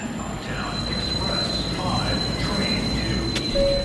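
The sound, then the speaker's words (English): A subway train rumbles steadily through a busy station at Fulton Center, a shopping mall and subway station in Manhattan, New York City, with a constant low roar, a thin high metallic whine, and the murmur of voices in the background. “Like Fulton Center, a shopping mall and subway station in Manhattan that hundreds of thousands of people pass through every day.”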